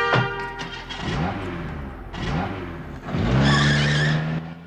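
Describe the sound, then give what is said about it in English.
A car revs hard and speeds out of a car park, tyres squealing in several loud, rising screeches as the engine climbs, with no voices. “He watches her, chewing gum slowly as she speeds out of the car park.”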